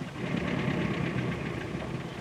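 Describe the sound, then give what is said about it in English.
A man's car engine runs steadily at idle, a continuous low rumble with a faint rhythmic knock, even in loudness throughout, with no voices. “He's got his engine running.”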